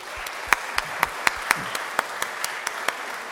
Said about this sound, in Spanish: Un aplauso.